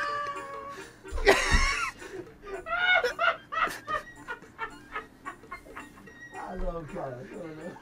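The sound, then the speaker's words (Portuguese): A small dog that has been run over by a car whimpers in high, wavering whines, broken by short breathy bursts of panting, moderately loud for several seconds. “O cachorrinho foi atropelado, mestre!”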